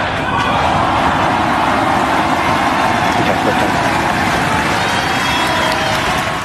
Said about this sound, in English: the president-elect joined another member of his new team in Texas on Tuesday, standing alongside his advisor on government efficiency, the world's richest man, Elon Musk, for the latest test flight of the SpaceX Starship mega rocket. 5, 4, 3, 2, 1.